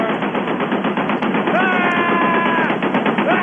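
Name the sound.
big gun firing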